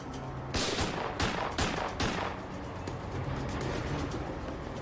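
A burst of gunfire as a man keeps shooting at a police officer: four sharp, loud shots in quick succession over roughly a second and a half, followed by a steady rumbling background with no voices.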